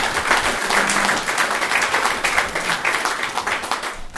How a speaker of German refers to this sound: Das wäre ein Applaus wert.